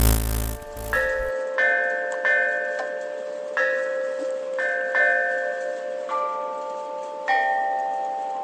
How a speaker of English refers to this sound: You have accessed entry 548.EX3925, certificate number 50855, the Great Bell of Domazetti.